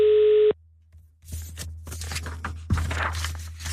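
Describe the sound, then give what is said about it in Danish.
A steady telephone ringback tone on an outgoing call to Tunø sounds once, cut off after half a second, followed by crunchy rustling and handling noises over a low, constant line hum. “Jeg skal ringe til Tunø, fordi Tunø har oplevet en af de helt store begivenheder i går.”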